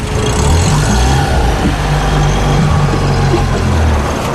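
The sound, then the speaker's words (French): A boat motor drones steadily and loudly as the boat heads to moor at a buoy in a lagoon: a low rumbling hum with a faint throb, running without a break and with no voices. “on a arrêté le moteur, c'est un peu plus calme, on entend la mer, parce que juste au loin, il y a la barrière hein, du lagon.”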